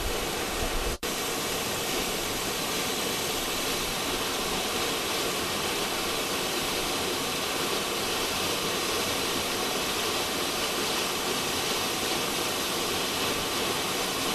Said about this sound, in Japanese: すごいね、滝のてっぺんから水が落ちてる。